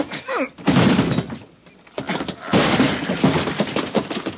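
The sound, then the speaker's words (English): A door being hit and forced open: loud crashing and splintering thuds in two rough bursts, with a brief vocal sound just before the first impact. “Come on. Let's hit the door.”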